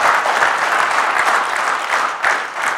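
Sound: audience clapping hands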